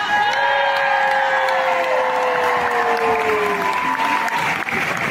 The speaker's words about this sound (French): Mesdames et messieurs, un tonnerre d'applaudissements pour Patrick Fernandez.